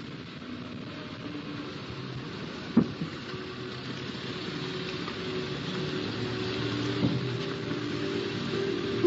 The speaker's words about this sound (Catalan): El cotxe s'enfila amb esforç per l'empedrat dels carrerons tortuosos i solitaris que ens porten fins a la plaça de l'Ajuntament, al capdamunt del poble.